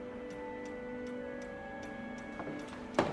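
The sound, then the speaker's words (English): A clock that had not worked in years, just repaired by fixing its suspension spring, ticks in a steady, even rhythm, about three ticks a second, over a soft sustained tonal hum, ending with a sharper, louder knock. “Well, that clock hasn't worked in years. Well, the suspension spring was just out of whack. It should work fine now.”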